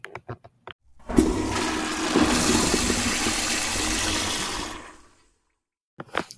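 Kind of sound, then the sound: household object, toilet flushing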